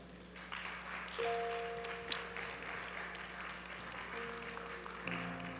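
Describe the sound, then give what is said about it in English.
An audience claps steadily throughout, a dense patter of many hands with one sharper crack near the middle, while a sustained musical tone hums underneath. “Clap.”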